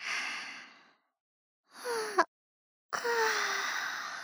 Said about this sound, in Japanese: 大きいあくびね。眠いの？ そりゃ眠い、疲れたから眠いの。